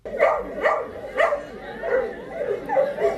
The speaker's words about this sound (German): Vielleicht hat er ja Durst. Schau, jetzt kommt der Hund ein bisschen Wasser rüber. Schau mal, wie er sich freut.